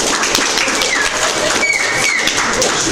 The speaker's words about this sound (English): Erupted in applause.